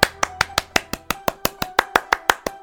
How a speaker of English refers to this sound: So, boys and girls, put your hands together and give a huge round of applause to Bob Baker.